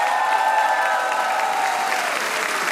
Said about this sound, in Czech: Zdravíme vás všechny, 24. díl pořadu Rozhlas jede za vámi a takhle vám tleská nabitý kulturní dům v Čelákovicích.